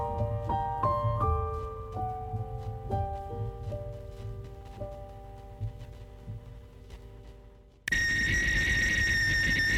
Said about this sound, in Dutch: Een fluitketel waarvan de fluit niet zoek kan raken, is een van de snufjes op de huishoudbeurs